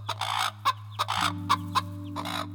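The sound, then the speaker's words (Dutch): Several hens cluck in short, uneven bursts, some calls overlapping, clear over a steady low hum and faint sustained tones in the background. “Van schrik leggen de kippen allemaal opnieuw een ei.”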